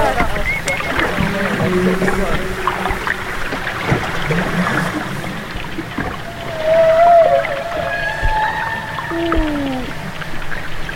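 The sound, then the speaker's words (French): Underwater whale vocalizations rise and sweep in tonal moans and high whistles, with a small grunt just before, over a dense, crackling background, with bubbly gurgles and sharp throat clicks scattered throughout at a steady level. “Vocalise et petit grognement juste avant. On entend dans les aigus. Ah ouais, il y a les glouglous, les claquements de gorge”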